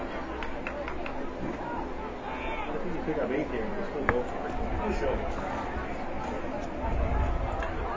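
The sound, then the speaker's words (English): A steady, dense murmur of many voices from the packed Tewksbury crowd at a night football game, with some people along the fence by the snack bar, no single speaker standing out, with one brief sharp knock partway through and a slight swell near the end. “Well, the Tewksbury crowd is really filled in. We got a packed house tonight.”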